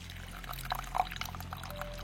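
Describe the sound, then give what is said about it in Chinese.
Steady rainfall hisses and patters, with scattered sharper droplet splashes popping out of the wash and a low steady hum underneath. No voices. “这雨一时半会儿是停不下来的，要不在我这里坐坐，也比在外面淋雨好吧。”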